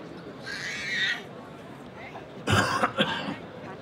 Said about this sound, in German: Also, das Husten gilt nicht dem Publikum, sondern dem Privatradio von Markus Clement.